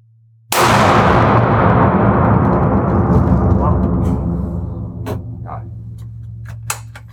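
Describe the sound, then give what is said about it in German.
A single loud gunshot, the second shot from a hunting rifle, cracks out, followed by a long rolling echo that fades over several seconds, with a few faint clicks afterward. “zweiter Schuss”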